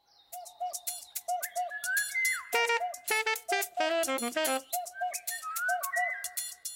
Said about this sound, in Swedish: Okay, nu får vi njuta av fåglarna här utanför på reservatet en stund.